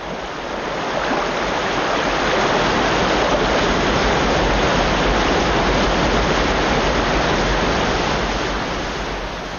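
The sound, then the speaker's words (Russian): Niagara Falls roars continuously, a massive, dense, steady wash of rushing water filling the whole soundscape and fading in and out gently. No voices are heard. “На следующую ночь ветер утих, температура поднялась, и, как выразился историк, Ниагара was in business again.”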